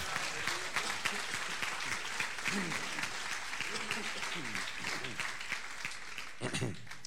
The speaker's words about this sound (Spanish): Fuerte aplauso a Cristo, vamos.